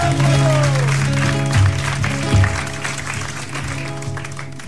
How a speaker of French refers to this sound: On peut applaudir le Paul, s'il vous plaît.